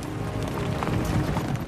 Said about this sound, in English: Police riders in silhouette against a silver-grey sky canter along a ridge.